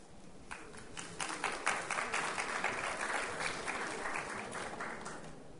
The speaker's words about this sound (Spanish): Esos aplausos fueron nada. Bueno, es el frío.